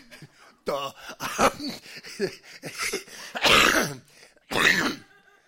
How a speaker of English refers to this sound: Thank you. You got me coughing.